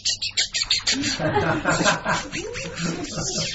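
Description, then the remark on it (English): Birds chirp in the Himalayan mountains in summer in a quick burst of short tweets, then give way to a busier, overlapping stream of warbling calls, moderately loud throughout. “My dear, how do we say birds?”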